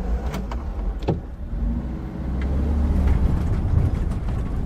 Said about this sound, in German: Der VW-Bus holpert unter alten Eichen und Lindenalleen entlang.